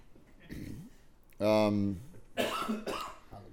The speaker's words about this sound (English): Cough.